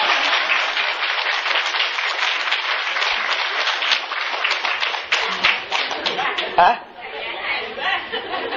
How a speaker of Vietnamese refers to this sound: Và quý vị cho hai cặp vợ chồng già đó tràng pháo tay.